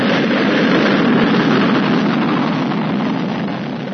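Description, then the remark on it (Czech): A continuous, loud roar of rocket engines during the launch of Vostok 1 from the Baikonur cosmodrome in the Soviet Union in April 1961, a dense rumbling hiss that holds steady before easing slightly toward the end. “Sa kosmodroma Bajkonur u Sovjetskom savezu lansiranjem Vostoka 1 započela je nova era u osvajanju svemira.”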